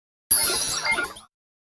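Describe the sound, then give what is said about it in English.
A bright, shimmering page-turn cue chime from a read-along of The Game by Peter Millett rings out alone for about a second, a cluster of high tinkling tones with a sparkling upper shimmer that fades out quickly. “When you hear this sound, turn the page.”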